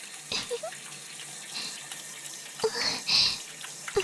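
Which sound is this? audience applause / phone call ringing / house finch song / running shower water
running shower water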